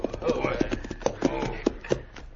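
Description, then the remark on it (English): Horse hooves clip-clop in an uneven, unhurried rhythm as horses arrive at a cafe to be tied to a hitch rail. There are several sharp knocks, with muffled voices murmuring underneath. “Tie our horses to this hitch, Ray, and me going to go in.”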